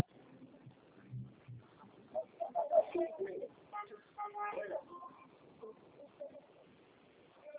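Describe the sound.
Parrots for sale squawk and chatter in bursts, their harsh calls mixing with muffled voices and low background rumble.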